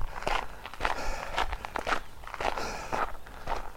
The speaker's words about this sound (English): Here comes a horse.